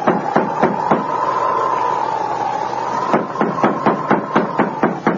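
Sharp knocks on a store door in two bursts: a few quick raps, a pause, then a longer, insistent run of about eight knocks, over a steady faint hum.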